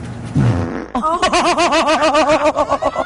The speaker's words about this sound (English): I do need a fart.